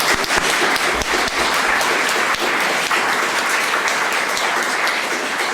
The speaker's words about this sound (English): And so, welcome, and give yourself some applause.